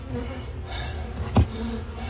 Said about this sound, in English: Owner had this wall built to reduce snow buildup on his roof, and the bees, they decided that was a perfect place to build a new home.